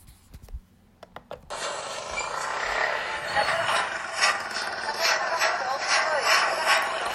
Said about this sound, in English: So you can hear there's some building work going on. Okay, so hopefully you could hear that there was a lot of building work going on. There was some chatter and you could really hear the motorbikes as well.